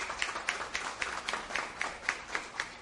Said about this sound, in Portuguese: Vamos aplaudir, gente?